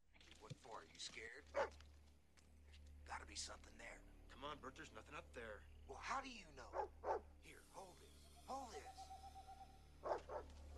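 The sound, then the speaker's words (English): A dog barks repeatedly in short, uneven bursts, some drawn out into howling yips, with people talking around it and a low steady hum underneath. “Well, hi, doggy. I'm glad Freddy can't hear it because he would start barking at it.”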